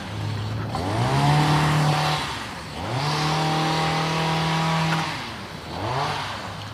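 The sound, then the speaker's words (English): A small engine like a weed whacker or edger revs up three times, each burst climbing to a steady, loud buzzing whine before dropping back off. No one speaks. “Somebody with a weed whacker? I think so. Yeah. Weed whacker or an edger.”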